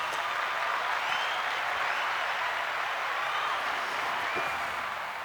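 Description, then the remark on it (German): A steady burst of applause from a group for a quiz contestant who scored 2 1/4 points: dense, even clapping that holds at a constant level for several seconds before easing slightly at the end, with no talking over it. “Dann haben Sie 2 1/4 Punkte und dann gibt es noch mal einen extra Applaus.”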